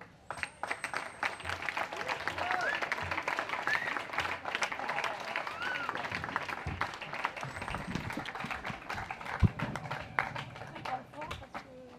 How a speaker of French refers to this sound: Eux, vous les applaudirez, c'est même pas la peine de les remercier.